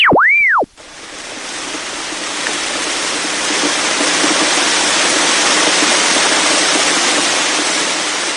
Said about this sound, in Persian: دیدید گفتم ساعت 3 بارون میاد.